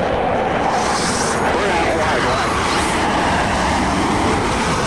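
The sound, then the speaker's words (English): An F-18 fighter jet's engine roars loudly and steadily while the plane banks above a canyon, with a brief rushing swell in the hiss as a missile streaks past behind it, then the dense roar carries on unbroken. “As the plane banks above a canyon, the missile passes behind it.”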